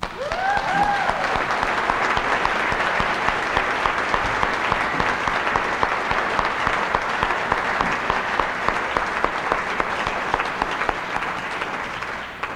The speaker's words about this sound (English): And you are a big part of the blessings of this place. And we need to applaud ourselves.